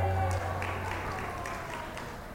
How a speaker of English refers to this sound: I'm not sure what that clap was for, whether or not that was about you are a much better person with your wife around.